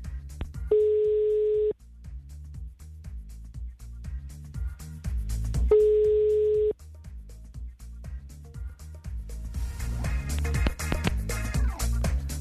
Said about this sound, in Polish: I nastąpiła bardzo niemiła niespodzianka, ponieważ były sygnały, ale ktoś się po prostu rozłączył.